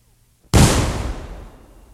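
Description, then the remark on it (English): After a moment of near silence, a single loud cannon shot booms out. Its blast trails off into a lingering, slightly tinny ringing that fades over the next second and a half. The ringing comes from vibrations of a huge oil tank several yards from the left microphone. “Further microphonic adjustments were made while the crew swabbed out the cannon. Once again now.”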